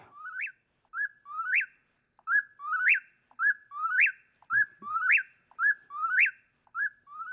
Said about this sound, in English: The whippoorwill, I always loved that song